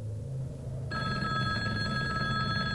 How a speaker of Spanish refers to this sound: Sonó el teléfono de la habitación. Era un teléfono muy viejo, aún de disco.